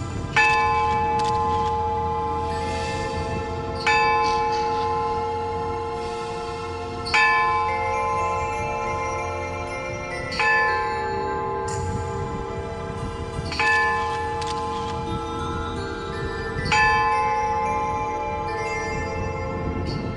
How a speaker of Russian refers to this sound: Он пожертвовал нам колокол. И я ездил в Москву, этот колокол забирал. И вот он один у нас, но, по крайней мере, вот звенит на все село.